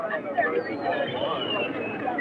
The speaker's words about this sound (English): I'm now about to step on stage. You can hear the crowd gathering. It looks like a pretty friendly crowd, too.